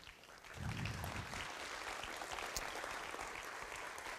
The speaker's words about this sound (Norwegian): Så fremt dere er her inne, så har jeg lyst til at dere også skal komme og få en varm, varm applaus.